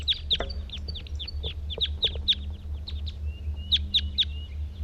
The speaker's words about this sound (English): These are the males that were in the tree now. Two males in a treetop. One's calling, one's singing.